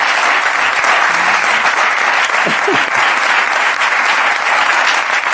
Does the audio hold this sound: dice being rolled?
no